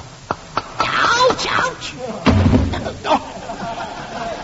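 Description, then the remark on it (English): A couple of sharp taps ring out, followed by a heavy, crunching smack as a small reflex hammer strikes and breaks during a doctor's knee reflex test, with voices groaning and exclaiming around it. “My hammer broke.”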